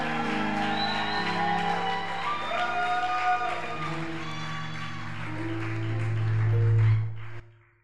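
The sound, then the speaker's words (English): An audience claps hands in a dense, steady burst, with whoops and raised voices mixed in. The clapping holds strong for about seven seconds, then quickly fades out. “If the hand clap was for the choir, do a better one unto Jesus.”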